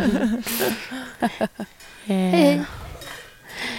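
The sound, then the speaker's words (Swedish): Pots and pans clatter in a few sharp metallic clanks from a saucepan band, moderately loud, with a brief vocal sound mixed in between the bursts. “Kommer kastrullorkestern?”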